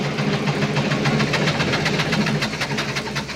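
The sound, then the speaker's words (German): An old, often-repaired farm tractor engine chugs roughly during the hay harvest, with a loud, uneven knocking rhythm that sputters without dying out as the tractor falters again, and no voices are heard. “Jetzt macht unser Traktor wieder schlapp.”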